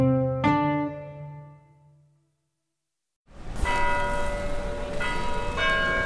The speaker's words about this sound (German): Der Kirchturm der Martinikerk in Groningen mit Uhr- und Glockenspiel. Das Wahrzeichen der Stadt und im unendlichen Flachland des niederländischen Nordens schon von weitem zu sehen.